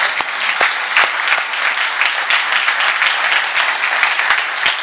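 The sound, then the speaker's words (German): An audience claps for the viewers steadily throughout, a dense, loud wash of many hands with sharper individual claps popping out of the noise. No one speaks over it. “Jetzt lasst uns nochmal klatschen für die Zuschauer.”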